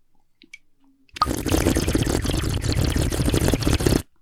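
household object, water bubbling

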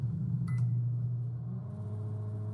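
household object, microwave oven running

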